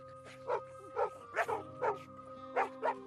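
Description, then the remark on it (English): A kangaroo dog barks about six times in a steady, evenly spaced rhythm, each bark short and full-throated, heard clearly with no voices over it. “The kangaroo dog Bosun was one of these dogs.”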